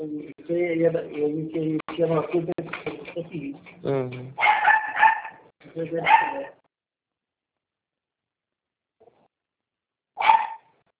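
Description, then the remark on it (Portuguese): A dog whimpers and whines, then lets out a few loud barks in quick succession, followed by a pause and one more sharp bark. “Esse cachorro é chato.”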